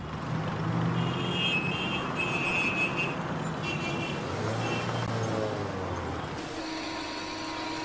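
car driving

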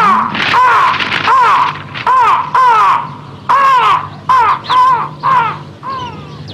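birds calling

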